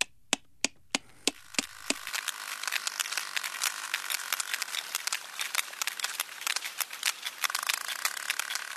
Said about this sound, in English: Louder than a jet engine, Louder than a jet engine. And, of course, sonar, which is what they're using, is the only way of hunting the food. But it's not only for hunting. It's for communication as well that the sperm whales use use those clicks.